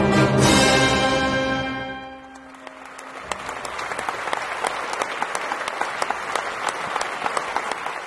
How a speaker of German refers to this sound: Das Konzert ist zu Ende, das Publikum spendet Applaus und dann gehen Gäste und Orchester wieder getrennte Wege.